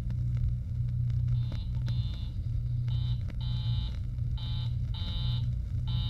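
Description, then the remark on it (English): A telephone rings over and over in short paired bursts, a call to a young woman's apartment going unanswered, with a steady low rumble running underneath and no voices. “No answer from that girl's apartment. I've tried several times.”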